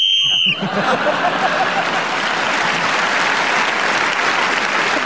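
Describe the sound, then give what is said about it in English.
A short, shrill whistle blast, blown to end a round of a panel game, rings out for about half a second, then loud, steady applause takes over and continues to the end. “Whistle.”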